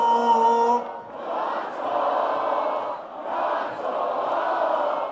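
A crowd of several thousand fans, celebrating a championship win, chants loudly, their massed voices rising and falling in steady rhythmic surges, after a brief sustained tonal sound at the very start.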